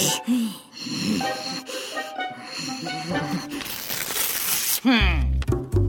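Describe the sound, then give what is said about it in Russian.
Styrofoam rubbed against glass gives a run of shrill, wavering squeaks and squeals, broken by a harsh scratchy stretch midway and ending in a loud, rising screech. “Я просто немножко потру пенопласт о стекло.”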